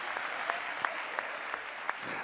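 An audience claps in unison, sharp synchronized claps landing in a steady, even rhythm about three times a second over a soft murmur.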